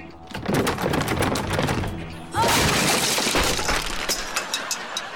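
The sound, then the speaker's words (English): Rapid, repeated hard blows strike a locked window of unbreakable maxi glass, a dense clattering series of impacts that grows louder and harsher about halfway through without the glass giving way. “All the windows have been replaced with maxi glass. They're quite unbreakable.”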